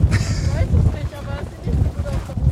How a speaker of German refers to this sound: Ich glaube, wir müssen umziehen, weil das wird zu windig.